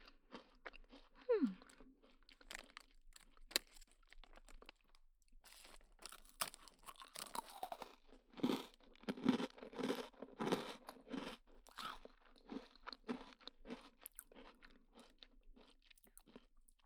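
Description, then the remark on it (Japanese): Crunchy chewing of a cookie, with repeated crisp bites and grinding in an uneven rhythm that grows louder and denser midway, with no talking. “おやつ食べてる間止まりませんね”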